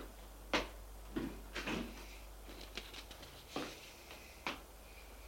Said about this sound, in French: Une porte plombée avec caméra et tout. L'hôtesse appuie sur un bouton. Voyant vert s'allume. L'hôtesse ouvre la porte